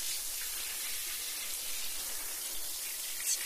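A steady hiss of running water carefully rinsing shampoo suds out of hair and off the scalp, continuous and even throughout with no voices.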